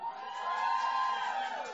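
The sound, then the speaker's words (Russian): A crowd erupts in loud, sustained cheering and whooping, a dense wall of voices holding steady for a couple of seconds with applause mixed in. “под ваши приветственные, бурные и громкие аплодисменты.”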